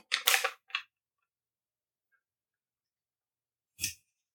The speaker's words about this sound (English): As you flip through your notes. Well, I'm trying not to hear the paper crinkle, and paper crinkling is an organic sound. Okay, I'm glad you're taking notes.